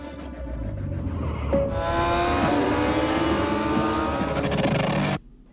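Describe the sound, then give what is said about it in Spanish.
Loud motorcycle engines rev and accelerate in an action film trailer for about five seconds, their pitch climbing steadily in a continuous roar before cutting off abruptly. No voices are heard. “Es una peli de acción, de motos.”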